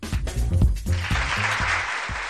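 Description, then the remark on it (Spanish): An applause sound effect marking Switch Mobility's further step toward setting up in Valladolid: dense, crackling clapping from a crowd that holds steady for about two seconds, with some low, indistinct murmuring or thumps mixed in beneath it. “Y este aplauso porque Switch Mobility ha dado de nuevo un paso más para instalarse en Valladolid”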